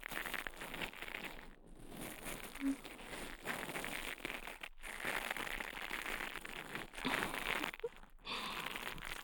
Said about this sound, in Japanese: 今度は、ブラシ型の耳かきで、耳をマッサージしていきます。